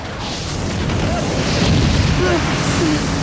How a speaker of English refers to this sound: As the choppers start firing at the riverbank, Erickson cowers from the explosions.